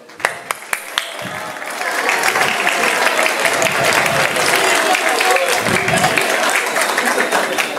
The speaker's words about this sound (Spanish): Un fuerte aplauso para ellos dos.